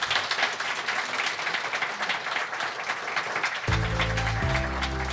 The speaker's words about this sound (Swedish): Ge dem en applåd, gott folk.